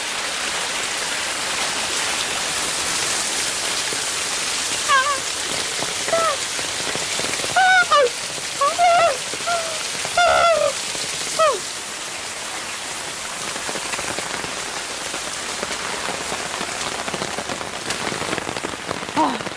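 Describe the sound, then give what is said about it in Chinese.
A small waterfall on a low hill on a rainy day splashes in a steady rush of falling water that fills the whole clip, with a person's voice briefly audible beneath it partway through. “啊，小瀑布，骑下脚了，看看，嗯，好凉快”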